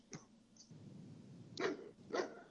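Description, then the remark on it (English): A German Shepherd barks twice as a rubber ball is thrown toward it, two loud, sharp woofs about half a second apart, preceded by a couple of fainter, shorter yaps, all over a low steady background rumble. “Can you hear him barking?”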